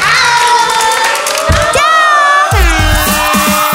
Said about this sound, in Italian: Un'altra storia fatta a pezzi, portata a termine qui al distaccamento sul mare del Bambino Gesù di Roma. Grazie ragazzi, fatevi un applauso.